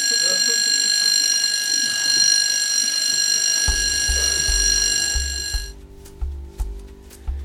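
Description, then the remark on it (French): A school bell rings in one long, shrill, unbroken peal for nearly six seconds, then cuts off, while a pulsing low bass rhythm comes in midway and carries on afterward. “Sur cette sonnerie de classe se termine donc cette seconde émission consacrée à une approche d'Arthur Rimbaud.”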